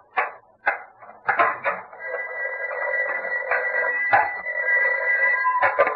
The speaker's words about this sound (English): Well, now, I think that's... excuse me. I get the phone.